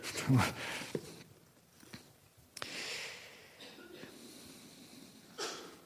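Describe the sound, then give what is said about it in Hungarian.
A single sharp sneeze bursts out at the start, followed by quieter breathy exhales, a sniff and soft rustling, with no talking. “Egészségedre.”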